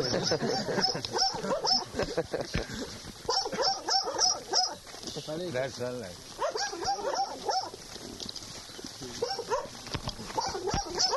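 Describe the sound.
A dog barks and whimpers in short, high-pitched bursts, mixed in with a man talking throughout.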